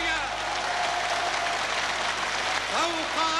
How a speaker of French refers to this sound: Tonnerre d'applaudissements, l'émotion est à son comble.